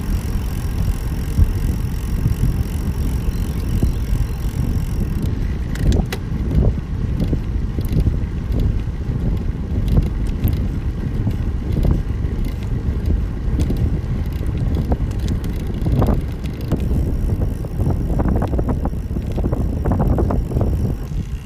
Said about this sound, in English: Here's some sounds right next to the water.